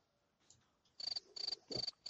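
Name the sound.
cricket chirping sound effect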